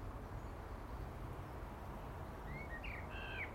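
A blackbird sings from a fence, giving a few short, fluty whistled phrases near the end over a steady wash of outdoor wind noise. No one speaks.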